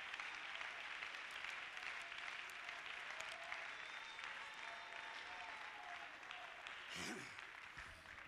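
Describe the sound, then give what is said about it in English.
A large group claps their hands to the Lord Jesus Christ during a sermon, continuously for several seconds, a dense, steady wash of applause with faint voices murmuring underneath and a brief sharper burst near the end. “Clap your hands to the Lord Jesus Christ.”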